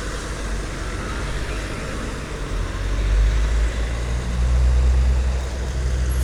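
truck driving past

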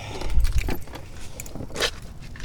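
keys jangling

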